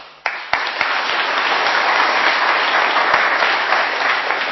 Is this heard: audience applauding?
yes